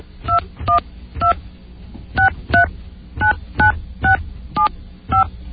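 A rapid sequence of about a dozen touch-tone phone dialing beeps, each short two-pitch tone clearly audible, pressed in an uneven rhythm over a low background hum with no talking.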